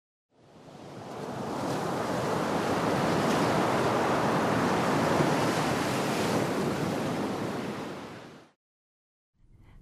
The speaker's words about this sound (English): Frightful rumble booms. I turn around. It's the dreaded wave we've heard about. Pushed by the storm, it's rushing straight towards us.